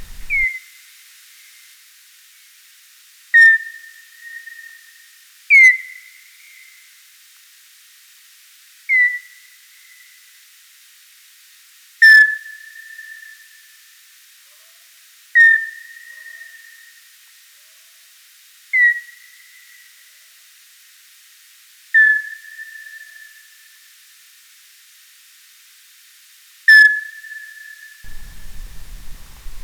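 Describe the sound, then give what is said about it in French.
Ultrasonic animal calls slowed tenfold: nine separate cries, each a sharp downward sweep settling into a high, steady, whistle-like tone, repeating every few seconds with a melodic quality against quiet hiss. “Ce qui donne une succession de cris plutôt mélodieux, ça devient musical, et l'expansion de temps laisse le temps à notre oreille de mieux apprécier s'il y a une modulation de fréquence, si la fréquence d'un son varie tout au long de sa durée, ou pas”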